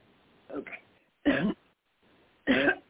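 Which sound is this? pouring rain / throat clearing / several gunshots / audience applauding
throat clearing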